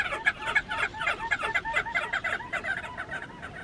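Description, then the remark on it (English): A big flock of crested auklets yipping together, dozens of short, nasal calls overlapping in a steady, chattering din that carries on throughout with no voices. “Picture a flock of tens of thousands of crested auklets flying low across the wave tops, yipping like an army of chihuahuas while trailing a perfume of fresh citrus.”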